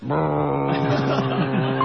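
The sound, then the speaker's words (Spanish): A voice imitates a jet ski engine with a steady, buzzing motor drone held for about two seconds, fairly loud, its pitch wavering slightly. “Dice, ¿cómo se llaman las motos de agua? Jet ski.”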